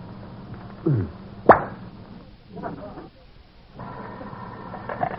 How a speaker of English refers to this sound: did you just open a bottle of brandy?